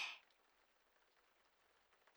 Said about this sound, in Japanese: 雨ですか？音聞こえます？ほら、まだ降り続けてますよ。